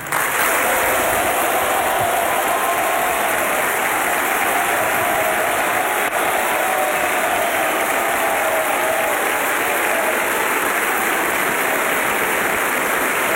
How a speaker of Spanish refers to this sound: Un aplauso atronador se escucha en el Salón de Honor mientras José Antonio Kast comienza a hacer ingreso al salón caminando por el centro,